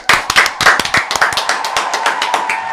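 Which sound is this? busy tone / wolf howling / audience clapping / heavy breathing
audience clapping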